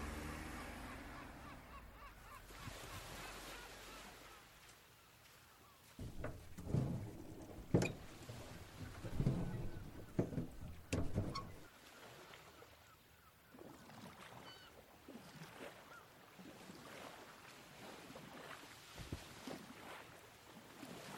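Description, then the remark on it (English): A boat engine rumbles steadily as the boat sets off from Bandar Turkaman Pier on a tour to Ashurada Island, with a burst of clunks and splashy knocks midway as it gets underway, then settles back into a continuous low drone. No one speaks. “The boatman is ready and we set off.”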